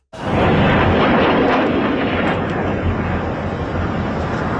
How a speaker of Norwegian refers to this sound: Iran skjøt en stor mengde raketter mot Israel, og både i storbyene Tel Aviv og Jerusalem ble det hørt eksplosjoner.